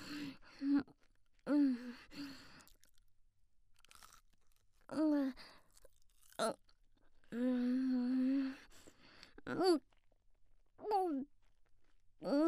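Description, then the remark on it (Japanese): Wet chewing of a croquette mixed with semen, in several short bursts, mixed with muffled humming vocal sounds from the mouth, separated by brief quiet pauses. “邪魔になってるザーメンは咀嚼の邪魔をしてくるぞ。”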